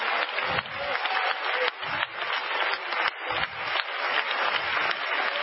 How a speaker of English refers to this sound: Oh, let's clap our hands and give Jesus praise.